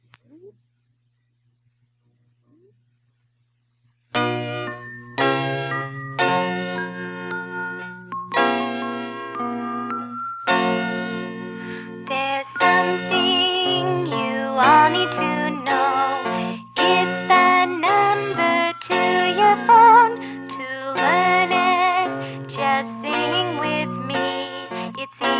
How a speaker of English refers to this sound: When I stop singing and you hear the bells playing